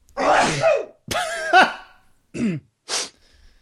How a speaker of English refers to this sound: Ooh, I'm gonna sneeze. Still not sneezing.